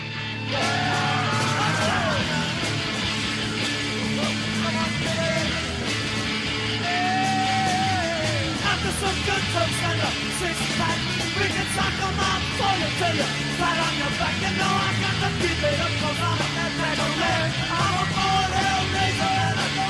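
Loud, dense rock music with distorted guitars and pounding drums, a raw voice yelling and hollering over the full band throughout.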